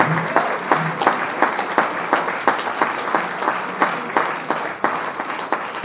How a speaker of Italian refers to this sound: Facciamo un applauso per...